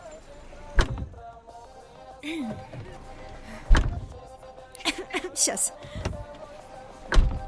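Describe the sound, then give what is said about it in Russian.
A car door is slammed shut three times, each a heavy thunk spaced a few seconds apart, with a person briefly murmuring in between as someone is urged to shut it harder. “Закрывай дверь, поехали.”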